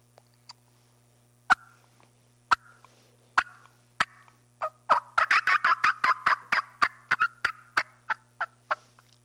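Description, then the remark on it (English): A turkey hen fly-down cackle imitated on a call by a turkey hunter at first light, signalling that a hen has just flown down from the roost: a few spaced yelps speed into a rapid, loud burst of cackling notes, then slow and trail off, with a low steady hum underneath. “I start hearing turkeys at a distance kind of pitch out, and I'll give it like a little fly-down cackle.”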